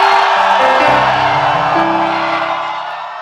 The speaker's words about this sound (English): So if you are the one the Holy Spirit is going to visit in these two nights, why don't you lift up your voice and give the Lord a shout of praise?